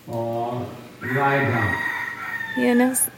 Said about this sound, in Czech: Jestli nasloucháte kohoutovi, anebo mě.